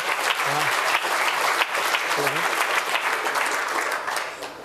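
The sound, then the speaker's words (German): Loud, dense applause from a crowd fills the whole stretch, a steady roar of clapping with brief voiced cheers or calls poking through near the start. “Tosender, donnernder Applaus, bitte!”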